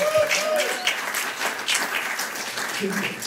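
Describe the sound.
An audience breaks into sustained applause, a dense, steady wash of many hands clapping at an even loudness, with faint voices and a few brief cheers mixed in.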